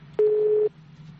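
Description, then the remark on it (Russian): A single clear electronic telephone keypad beep, steady and fairly loud for about half a second, over a faint low hum, as a button is pressed while dialing a direct-line number of the Investigative Committee press service. “А ты теперь набери, который называется прямой.”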